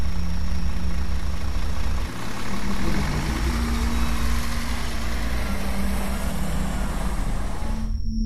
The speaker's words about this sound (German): Wir haben den Bus nicht bemerkt. Den Bus mit seinem laufenden Motor, in dem der Fahrer gesessen und uns zugesehen hat.